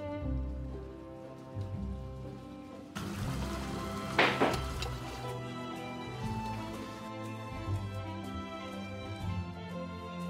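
Laundry being washed by hand with water brought from the river, as there is no running water: water sloshes and trickles steadily, with one louder splash midway, over a soft background of sustained music. No one speaks.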